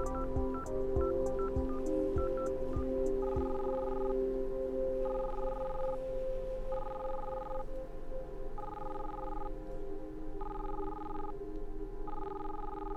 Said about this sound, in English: Nothing. And no answering machine? But if it's ringing, it must be an active line.